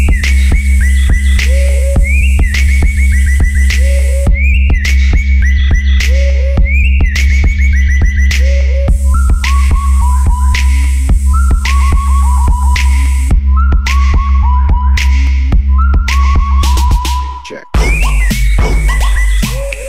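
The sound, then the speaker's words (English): An electronic bird-call machine whistles repeated chirpy, warbling tones in rising and falling patterns, loud and continuous over a steady low hum, then cuts out briefly near the end. “Bird machine. Check.”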